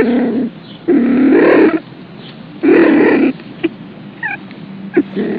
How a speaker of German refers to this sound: Im Juli und August ist die Paarungszeit bei den Mardern. Da wird es oft richtig laut. Sie kreischen so ähnlich wie raufende Katzen, aber sogar noch lauter und schriller. Und so horcht sich der Marder an.